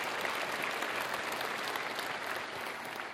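A crowd applauds steadily during a sermon, dense overlapping hand claps forming a continuous wash of noise that holds at an even level throughout and fades slightly near the end, with no voices.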